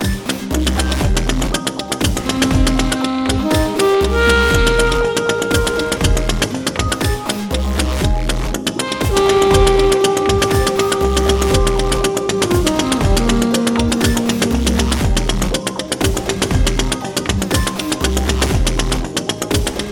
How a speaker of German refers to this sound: Wir hören einen Ausschnitt aus der Komposition mit der Klangmaschine…, von … mit Saxophon und Synthesizer.